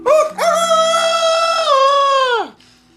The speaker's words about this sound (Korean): 이 젊은 수탉은 나폴레옹 일행이 행진할 때 항상 맨 앞에 있었고 나폴레옹이 연설을 할 때면 꼬끼오 하고 크게 소리를 질러 나팔수 노릇을 했다.